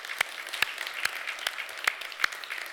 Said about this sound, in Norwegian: Kan dere reise dere? De ledere på kontaktsenteret I Porsgrunn. Skal vi gi dem en applaus?